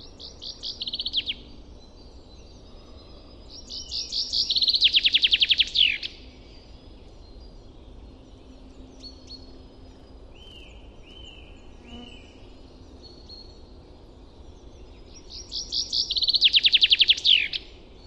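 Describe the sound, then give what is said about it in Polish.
Outdoor birdsong recorded in spring with a field microphone: a bird repeats bright, rapid trilling phrases at intervals, with a few thinner whistled notes between them, all over a soft, steady background hush. “Więc mam ten mikrofon i przechodziłem z nim całą wiosnę i baza głosów ptaków znacząco mi się rozbudowała i rzeczywiście jestem bardzo zadowolony.”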